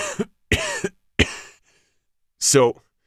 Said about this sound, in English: took a deep breath, then coughed.